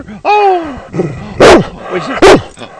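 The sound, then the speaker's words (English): A female dog named Ranger lets out a high, falling whine, then gives two loud, sharp barks spaced about a second apart, with some softer grumbling in between. “Good girl. That's right. Say hi to the dogs.”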